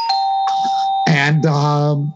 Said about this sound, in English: How many more times do you want to hear that stinking doorbell?